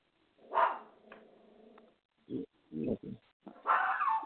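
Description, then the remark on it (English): A small dog whose owner has just shown up lets out a sharp yelp, then a low, whiny growl, followed by a run of short, uneven barks and a final louder, harsher outburst. “I have a little dog whose owner has just showed up.”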